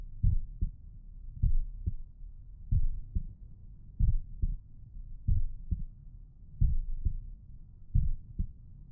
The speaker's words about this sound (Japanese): ねえ、僕ちゃん。このまま、ママの心臓の音を聞きながら、おねんねしましょうか。